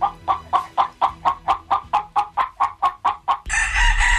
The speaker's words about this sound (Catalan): un gallino significa que canta com un gall i cloqueja com una gallina. Mm. Hem unit dos moments del gallino asturià.